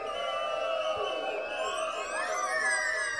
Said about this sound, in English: Yes, people, let me hear some noise for the Get Up family for make this Dubcam Festival possible, yes?